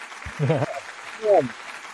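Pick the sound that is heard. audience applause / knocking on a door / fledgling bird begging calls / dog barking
audience applause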